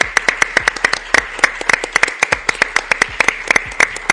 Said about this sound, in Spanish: Y bueno, a propósito de la iluminación de la sala, también gracias y aplauso a los técnicos que han hecho, las y los técnicos que hicieron posible esto.